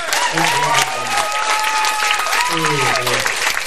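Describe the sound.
A live audience at the Dream Factory game show bursts into sustained, dense applause as a contestant is bid farewell, many hands clapping loudly and continuously, with cheers and raised voices mixed into the ovation.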